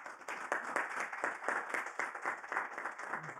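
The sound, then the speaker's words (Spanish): A church audience claps their hands to the Lord in a steady, rhythmic beat, sharp overlapping claps repeating roughly every half second, moderately loud with no talking. “Vamos a dar palmas al Señor.”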